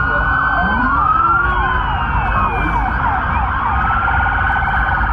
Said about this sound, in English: Here's what this actually sounded like that night. Listen to all of these sirens.